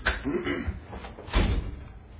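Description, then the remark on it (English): Someone tries to open a locked door: a few dull thumps and rattles as the door is pushed and pulled, with faint voices murmuring in the background. “That is the first time I've ever seen someone try to come through that door, so just leave it.”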